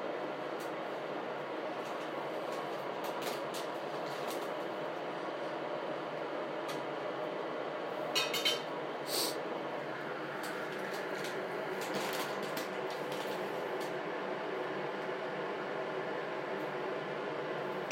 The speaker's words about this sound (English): Should I pause this until the kettle's finished boiling, or...?